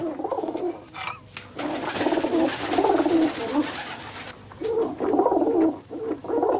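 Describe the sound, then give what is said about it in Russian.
Pigeons coo in repeated throaty, burbling phrases as a person gives them a drink, several calls overlapping and running almost continuously with a few short pauses. No one speaks. “Ну, голуби попои.”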